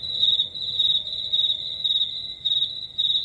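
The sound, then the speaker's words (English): Steady, high-pitched cricket chirping pulses in quick repeated bursts, clear, with no voices or other sounds around it. “I turned off everybody's microphone so you could just bask in my crickets.”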